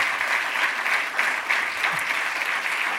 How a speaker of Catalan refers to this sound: El seu mestratge, la teva dedicació... Un gran aplaudiment.